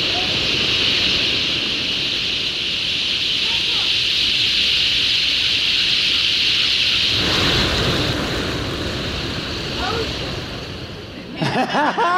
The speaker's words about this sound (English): This is ocean. Well, it's in a way.